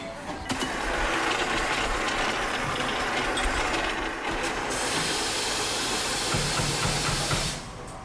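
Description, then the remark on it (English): An espresso machine steams with a loud, steady, broad hiss and a rough, rattling mechanical texture underneath, using the steam to prepare an espresso after coffee has been put inside the machine. It starts just after the opening and cuts off shortly before the end, with no talking. “He gave a circular form for having the coffee, and now with the vapor he is going to prepare the espresso.”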